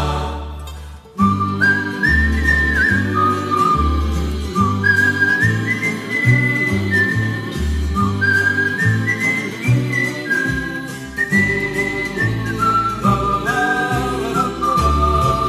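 A bright whistled melody carries a tune over steady instrumental backing, phrases rising and falling in clear, sustained notes, fairly loud throughout with no voices.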